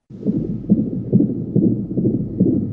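A fetal heartbeat in the womb, captured a few months earlier on the father's cell phone: rapid, steady whooshing pulses, muffled and low-pitched, repeating about twice a second over a faint background hum.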